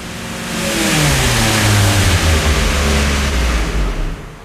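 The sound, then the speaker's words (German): A car carrying two people arrives late, its engine revving, the pitch sliding and climbing over a few seconds as the vehicle pulls in, loud and steady with no voices. “Sie wartete auf zwei nicht ganz Unbekannte, die dann auch kamen. Mit Auto und Verspätung.”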